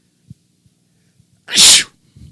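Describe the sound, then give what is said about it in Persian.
A single loud sneeze bursts out with a sharp hiss around the middle, preceded by a few faint low knocks and followed by a soft rustle; no one speaks. “اگه من عطسه کنم همه باید بگن عافیت باشه، عافیت باشه.”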